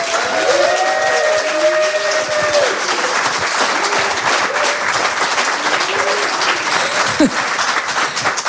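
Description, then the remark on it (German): Sustained audience applause welcoming guest Frank Künster onto a show, a dense, steady roar of clapping that stays loud throughout, with a few voices calling out and cheering underneath. “So viel Applaus, vielen Dank.”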